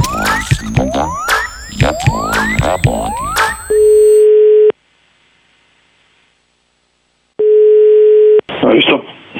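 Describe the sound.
An outgoing call's ringback tone: two steady, single-pitched one-second beeps separated by a long silence, after a burst of chirpy electronic sounds. A crackly voice cuts in at the end.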